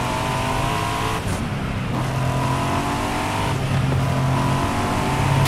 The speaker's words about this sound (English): I love all the cars on the road. I love that there are things.